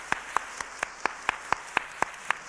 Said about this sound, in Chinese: 大家鼓掌。